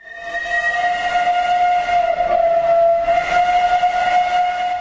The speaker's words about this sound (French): Les émotions étaient très fortes mardi matin, avant le départ des wagons d'époque tirés par deux locomotives à vapeur.